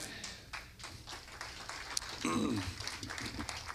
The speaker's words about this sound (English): You probably will wish you'd held that clap for a minute, because I haven't talked about the bells yet.